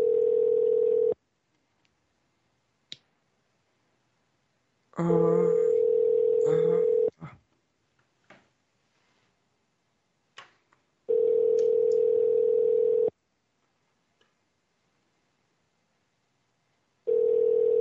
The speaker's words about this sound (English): They're not picking up their phone fast enough for me.